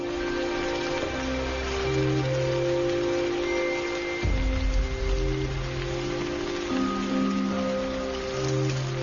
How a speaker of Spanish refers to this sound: Aquí abajo, bajo tierra, las crías están a salvo de la mayoría de los depredadores y de los chaparrones que pueden ser espectaculares en el condado del monte.